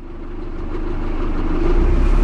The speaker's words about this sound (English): I'm on a small fishing boat on the waters of the Bosphorus.